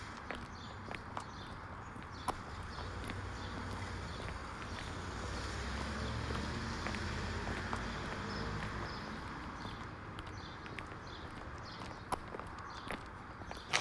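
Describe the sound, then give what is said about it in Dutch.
Steady footsteps crunch along outdoors at a relaxed walking pace as two people take a lunchtime walk in sunshine, set against a constant hiss of ambient noise and light wind, with no talking. “Dus tijdens de lunch gaan we even een rondje lopen.”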